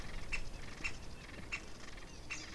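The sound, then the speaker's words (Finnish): Great spotted woodpecker nestlings beg from inside their nest with a faint buzzy chatter while a parent, agitated by a person who has come near, gives four sharp, evenly spaced calls over a steady outdoor background hiss. “Samaan aikaan kun valkoposkihanhet lentävät koilliseen, käpytikan pienet poikaset kerjäävät jo pesässänsä.”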